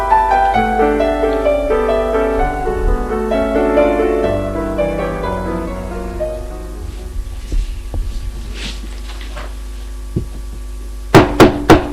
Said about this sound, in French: On frappe à la porte.